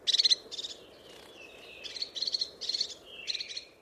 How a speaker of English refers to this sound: I love getting to watch the crested tits, and they're just gorgeous little things, and the way that they use their crests for signalling and just hearing them is a beautiful thing.